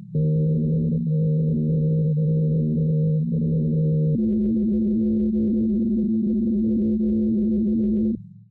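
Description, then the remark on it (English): An eerie, continuous droning hum from a vibrating Antarctic ice shelf floating in the Southern Ocean, picked up by seismic sensors planted in it. It is low and harmonic-rich, steady at one pitch before shifting abruptly to a higher, buzzier tone about halfway through, then cutting off. “But what they didn't expect was to record the ice shelf singing. Here's some of what they picked up.”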